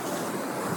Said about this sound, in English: A beautiful white noise behind us is the ocean